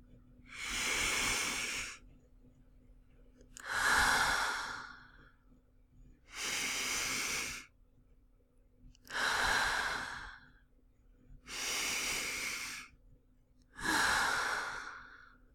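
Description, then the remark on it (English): Six slow, deep breaths alternate steadily: airy inhales through the nose paired with longer, breathier exhales through the mouth, with quiet pauses between, and no talking. “Begin breathing deeply and slowly. Inhale with your nose. Hold it, and exhale with your mouth. Try to breathe with me.”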